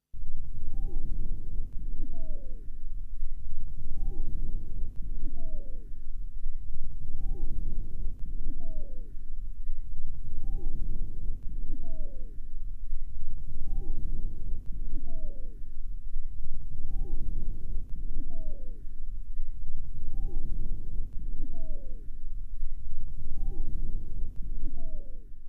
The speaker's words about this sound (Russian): Высокочастотные свистящие хрипы образуются при наличии вязкого секрета в мелких бронхах и бронхиолах. Сейчас вы услышите свистящие хрипы у больной, страдающей хроническим обструктивным бронхитом. Основной дыхательный шум представлен жестким дыханием.